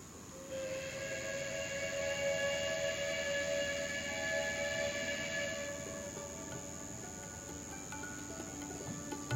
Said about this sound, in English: The level crossing's down, waiting for the night train from the north.